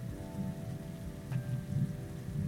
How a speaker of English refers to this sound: I'm in the lounge. My flight got delayed. It's raining. I wonder if they'll even allow any planes to take off in this weather.